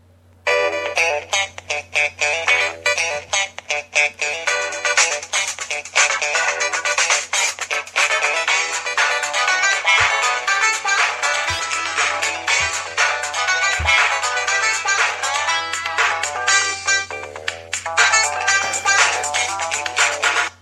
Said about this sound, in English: You know, if that ringtone went off like on the bus or something, or like in the subway, I would look the other way.